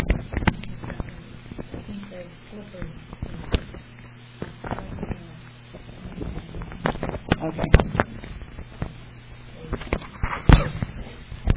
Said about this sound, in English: Sorry for those of you who are listening, I'm fighting with the microphone. Need duct tape.